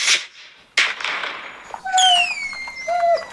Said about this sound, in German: Nur ganz leise spielt die Hundetrainerin im Knallgeräusche ein, aber Hündin Lina reagiert sofort. Sie winselt, läuft unruhig hin und her, wirkt panisch.